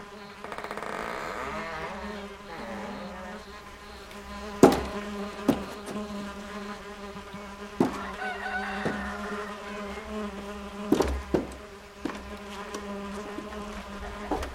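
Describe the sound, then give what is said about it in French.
A swarm of flies drones in a dense, continuous buzz that fills the whole stretch, steady, broken now and then by a few sharp knocks, as clouds of flies pour out of the open doors and windows of houses. No one speaks. “En s'approchant des maisons, il s'aperçut qu'elles bourdonnaient comme des ruches. Par les portes et les fenêtres ouvertes, il vit sortir des nuages de mouches.”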